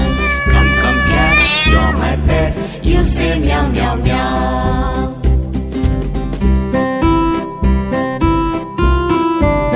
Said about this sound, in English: Come, come, cat, you're my pet, you say meow, meow, meow.